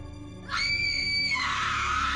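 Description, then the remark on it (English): A man lets out a sudden, loud scream that holds a piercing, strained pitch for nearly a second, then breaks into a rough, ragged cry that carries on to the end. “As soon as I heard the scream, I looked over to see the injured man perching onto one of the bystanders that was trying to help them.”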